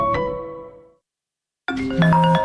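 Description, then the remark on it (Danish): A phone rings unanswered as a customer calls a business in vain: a bright electronic ring fades out, a pause of silence follows, then the ringing starts again, loud, with no voices. “Det her er lyden af en kunde, der ringer forgæves, og som nu finder nummeret på en konkurrent.”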